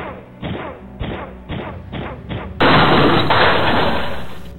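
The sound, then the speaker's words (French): Five heavy, evenly spaced thuds against a door, then a loud, sharp crash as it bursts open, with a crackling, splintering roar that slowly fades over the last two seconds. “Je t'ai pas dit de jouer de la guitare, je t'ai demandé de défoncer cette porte.”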